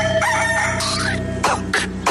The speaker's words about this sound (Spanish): gallo.